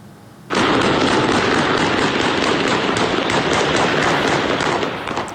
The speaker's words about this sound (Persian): بنابر ویدیوهایی که به رادیو فردا رسیده، ماموران امنیتی اقدام به تیراندازی و شلیک گاز اشکاور به سوی معترضان کردند.